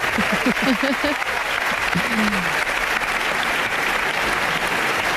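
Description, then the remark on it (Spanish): Sustained applause from a large audience at an awards ceremony, after a joke about Andrés Iniesta, fills the whole clip, a dense, steady patter of clapping at even loudness, with a few brief voices cutting through near the start. “Oh, cuánta ovación, ¿eh?”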